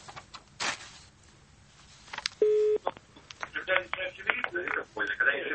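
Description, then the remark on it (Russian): Telephone line tones sound while a number is dialed during a live broadcast on the radio station Echo of Moscow: a steady beep lasting about half a second, then shorter tones mixed with voices chatting over a line. “А, или вы набираете? Набирает, понятно.”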